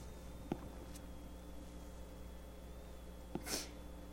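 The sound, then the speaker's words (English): A single short sneeze bursts out near the end, somewhat muffled, preceded by a couple of soft thumps against a quiet, humming background with no talking. “God bless you.”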